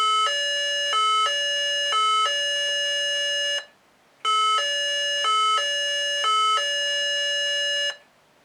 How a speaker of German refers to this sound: In einem Bigschaltkreis sind immer zwei Sounds integriert bzw. programmiert. Wir fangen mit dem ersten Sound an, das ist die Notenmelodie, das Martinshorn.